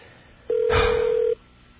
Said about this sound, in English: Was that a phone I heard ringing? These intelligent phones, they just know when to start ringing.